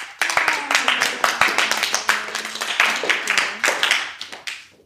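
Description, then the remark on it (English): A small crowd claps together for about five seconds to welcome a writer joining the group, a dense patter of many hands at steady loudness that thins out toward the end, with faint murmuring voices underneath. “Now, you guys can applaud.”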